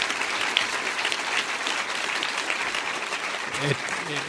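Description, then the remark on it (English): An audience at an Intelligence Squared debate applauds both sides of the debate steadily for about four seconds, a dense, even wash of many hands clapping at a fairly loud level, with a brief voice surfacing near the end. “I want to applaud both sides.”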